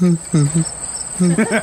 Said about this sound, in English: What does the scrotum frog sound like?